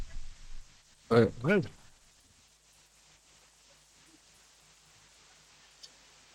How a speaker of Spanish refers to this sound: Escuchamos gigantes y molinos y ahora un sonido de delfines.